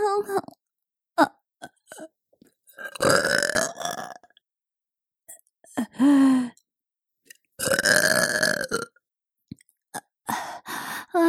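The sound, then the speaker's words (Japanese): Two long, loud burps, each a rough, drawn-out belch lasting over a second, separated by short breathy vocal sounds and small gulps. “ゲップするの、すっごく変態だよね”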